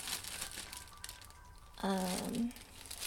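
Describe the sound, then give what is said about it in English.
A sticky plastic bag of raisins crinkles and rustles for a couple of seconds while raisins are added to banana bread batter, then a short voiced hum from a person cuts in before the crinkling resumes softly. “I don't know about this plastic bag of raisins, actually.”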